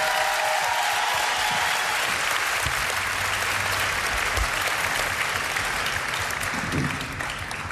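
A crowd applauds steadily and loudly, a dense wash of clapping with scattered cheers and whoops rising through it, sustained for several seconds before easing slightly at the end.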